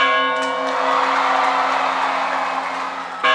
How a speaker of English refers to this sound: Balangiga's iconic church bells were carted off as war booty and returned here resonating.